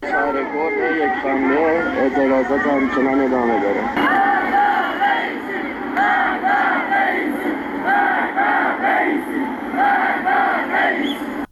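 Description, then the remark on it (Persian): A large protest crowd in Shahr-e Kord, Iran, chants slogans in unison against the country's leaders, including President Ebrahim Raisi, loud and rhythmic, with repeated shouted phrases rising and falling in steady waves over a constant roar of many voices. “بنابر تصاویر منتشر شده در شبکه‌های اجتماعی، معترضان شعارهای علیه سران حکومت از جمله ابراهیم رئیسی رئیس جمهوری اسلامی سر دادند.”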